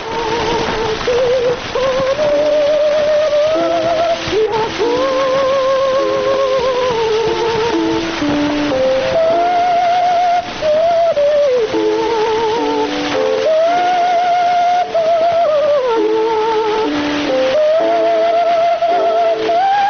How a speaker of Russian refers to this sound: Из «Пиковой дамы» поет Медея Фигнер, ария Лизы из оперы «Пиковая дама». Вот такой мог услышать эту музыку Матисс в 1911 году.